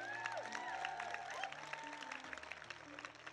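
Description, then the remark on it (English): A church audience claps in a thin, uneven patter of hands for a few seconds, with sustained musical tones and a few raised voices carrying underneath. “You should have clapped more.”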